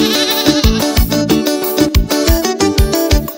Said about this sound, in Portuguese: Na minha casa tem um bode, e quando começa a berrar, eu já acordo bem cedinho com a garrafa.